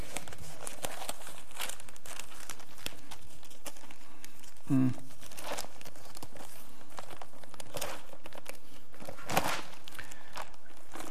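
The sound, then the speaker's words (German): Paper crinkles and rustles in a steady stream of crackling handling noise, with a couple of sharper tearing rips standing out, and faint voices in the background. “Es fiel mir zu spät auf, dass da kein Papier mehr drauf ist”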